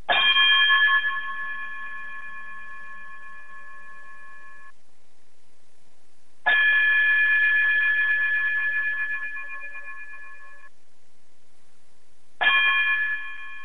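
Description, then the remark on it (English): Three bright, ringing chime tones strike one after another, each sustaining a long shimmering ring before fading, with the last one cut short. No voices, just the clear bell-like tones alone, played as a closing chime. “if you would, chime us out.”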